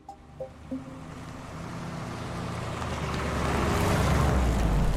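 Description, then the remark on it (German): Steady low rumble of road noise inside a moving car, driving in February 2024 on the way to visit Frau R., swelling gradually louder as it picks up speed, with a few faint tonal blips near the start and no talking. “Und so sitzen wir im Februar 2024 mit Sabine im Auto auf dem Weg zu Frau R.”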